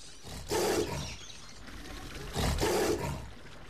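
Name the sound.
tiger roaring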